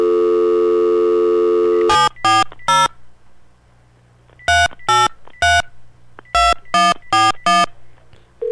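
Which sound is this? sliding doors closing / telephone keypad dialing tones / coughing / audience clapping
telephone keypad dialing tones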